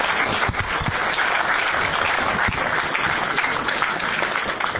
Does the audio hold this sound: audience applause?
yes